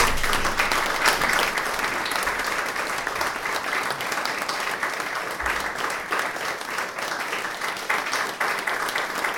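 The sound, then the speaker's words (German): Steady, brief applause from an audience welcoming the female performers onto the stage for a concert, many hands clapping in a dense, even patter that holds at a constant loudness throughout, with no voices heard over it. “Bitte zunächst mal, denke ich, darf ich unsere Künstlerinnen auf die Bühne bitten und mit einem kurzen Applaus Sie begrüßen.”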